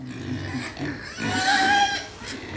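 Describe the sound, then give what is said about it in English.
Several pigs grunt and snuffle in pens at Baleham House Rare Breeds Farm in Suffolk, England, in a continuous low rumble, with a brief high squeal rising out of the noise partway through. No one speaks. “To find Britain's rarest pig, I went to Baleham House Rare Breeds Farm in Suffolk.”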